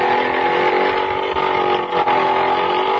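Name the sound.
motor scooter engine running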